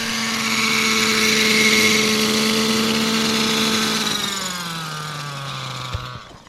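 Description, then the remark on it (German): A petrol-powered model helicopter engine drones steadily and loudly with a buzzing whine as it flies until it runs out of petrol, then its pitch drops as it winds down near the end, with no voices present. “Wir fliegen, bis der Helikopter kein Benzin mehr hat.”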